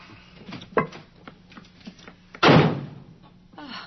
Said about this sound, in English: Why does he always have to slam the door?